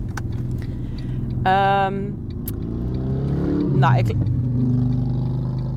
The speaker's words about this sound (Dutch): Nou, ik heb nou een hele grote motor achter me. Die komt even langs gebromd.